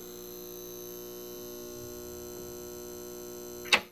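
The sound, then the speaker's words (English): A steady electrical hum drones on unchanged, rich in buzzy overtones, with a brief sharp click near the end. No one speaks. “Are parts of our brains actually getting rewired when a hum or some other sound just won't quit?”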